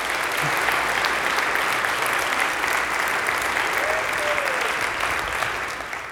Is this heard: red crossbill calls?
no